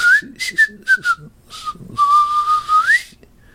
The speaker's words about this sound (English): Or whistle through your teeth.